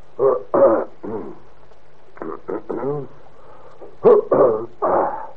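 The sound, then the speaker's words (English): A man, acting as a judge, clears his throat over and over before reading out rules from a notebook, in three short clusters of gruff, voiced rasps, each cluster made of two or three quick bursts, with no words spoken. “I'm clearing my throat.”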